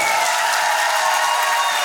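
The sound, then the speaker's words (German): A large audience of the show Ist das ein Witz? bursts into loud, sustained applause welcoming the host, a dense wash of many hands clapping at once with a few faint cheers mixed in, without any speech. “Mensch, womit habe ich das denn verdient, dass ihr mir so einen großen Applaus gebt?”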